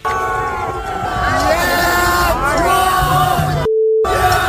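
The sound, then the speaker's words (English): A loud concert crowd of fans boos and yells at the band, shouting an obscenity, in a sustained, rumbling wave of voices, briefly cut off near the end by a steady censor beep before the jeering resumes. “what could have possibly gone down at a … concert that would lead to their own fans booing them?”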